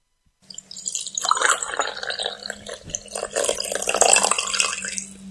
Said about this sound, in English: But first, it is time to begin the second half of the show, as we have done each and every Saturday during Saratoga, and that's by pouring a fresh cup of coffee